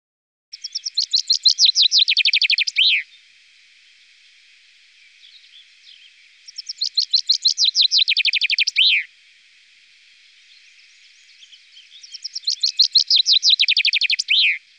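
A common chaffinch, light blue on top of the head with an orange body, sings three bright song phrases, each a rapid descending trill ending in a flourish, separated by a few seconds of quiet with faint background chirps.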